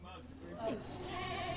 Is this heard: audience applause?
no